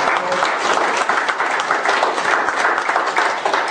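An audience breaks into steady, loud applause, many hands clapping in a dense, continuous wash that holds at the same level for the whole few seconds, with no voices standing out.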